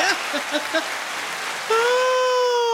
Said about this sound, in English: I'm playing a round of applause.